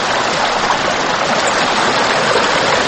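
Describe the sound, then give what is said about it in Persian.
Steady, rushing water of the Salang river flows through Chaharburj village, a continuous broad hiss and gurgle like a river running over rocks, loud and unbroken with no voices. “البته از دریای سالنگ گذشته از بین قریه چهاربرج است.”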